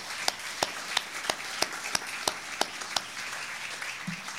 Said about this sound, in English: and for all the new members here this evening and for the volunteers that helped this evening, can we hear a round of applause for those people that helped make this possible?